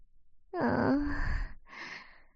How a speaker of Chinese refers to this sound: 因为太累了，你还有一点打呼，好可爱。